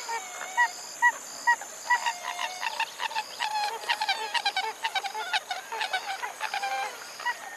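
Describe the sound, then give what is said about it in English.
A pied-billed grebe calls a long, rhythmic series of hollow, honking notes that speed up and run together, over a faint steady high background hum. “A pied-billed grebe.”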